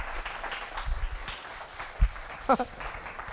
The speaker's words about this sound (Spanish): Dale un aplauso a tu Señor, por favor.